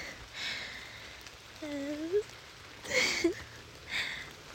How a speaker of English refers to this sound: And the rain is really not helping, and I really, really have to go.